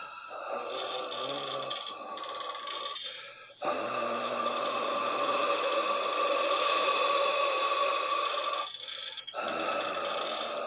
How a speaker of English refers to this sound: The sound grows louder. You begin to feel the vapor of a haunting breath of a ghost upon your neck discompose as the deep breathing gets even louder in sound.